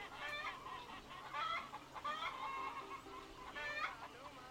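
Several Barred Rock chickens cluck and squawk in overlapping bursts, a busy flock with no voices, the calls rising and falling in short repeated phrases.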